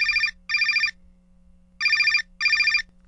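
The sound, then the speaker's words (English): A standard cell phone ringtone rings for an incoming call in two double bursts, each pair of short warbling electronic trills separated by a pause. It sounds clear over a faint low hum, with no talking. “If you were to call my cell phone number, I would hear a pretty standard sounding ring.”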